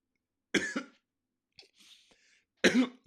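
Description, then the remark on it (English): Two sharp coughs about two seconds apart, each a harsh burst with a quick second catch, separated by a faint raspy breath and a bit of throat noise. “Excuse me, if you're a believer or not, you're going to cough, okay?”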